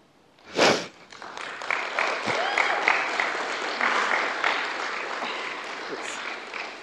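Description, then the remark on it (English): An audience at a Celebrate Recovery meeting breaks into applause after a speaker's testimony of coming to faith, beginning with a sharp opening burst, the dense clapping holding steady and sustained for several seconds with a faint murmur of voices mixed in. “That's a good reason to clap.”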